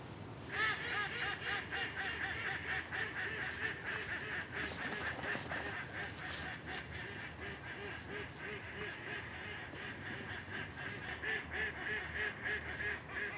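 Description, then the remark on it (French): A flock of decoy ducks, raised all year to lure wary wild birds, quacks nonstop, their harsh, overlapping calls forming a dense, steady chorus that stays loud from start to finish, with no voices. “C'est-à-dire qu'on essaie de dresser, d'élever toute l'année des canards pour essayer de séduire un peu les oiseaux sauvages qui sont super méfiants.”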